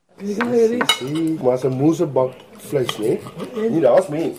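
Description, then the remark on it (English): Dishes and cutlery clink and clatter in scattered sharp taps while a family talks steadily over lunch, their voices louder than the tableware. “her father and her husband tuck into lunch.”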